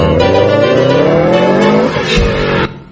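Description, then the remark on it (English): A car engine drones loudly and climbs in pitch as the vehicle drives, then comes to an abrupt halt with a brief skid, leaving quiet behind. “Do you know why we stopped the car?”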